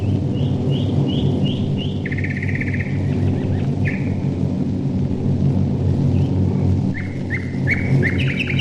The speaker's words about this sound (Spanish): Poco a poco, el bellísimo canto del pájaro se va ensombreciendo con el zumbido mecánico que se aproxima. Es el estruendo de los 197 aviones de la Fuerza Aérea Británica que se dirigen a bombardear la ciudad alemana de Mannheim.